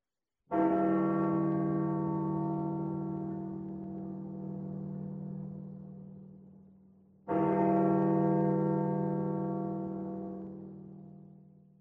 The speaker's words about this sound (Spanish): Ya tengo el doble de esas campanas metido entre las sienes. Llevan ya más de 2 horas de gori gori.